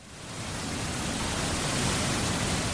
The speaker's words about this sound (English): If you really use your imagination, this sounds a little bit like Niagara Falls. But it's just the Moody Street Dam in Waltham where the Charles River isn't always so thunderous.